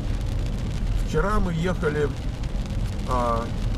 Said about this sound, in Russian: Вчера мы ехали в Санта-Крус. И, ну, не было такого дождя, как сейчас.